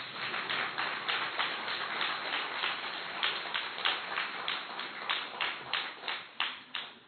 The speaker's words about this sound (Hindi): ताली तो बजाओ।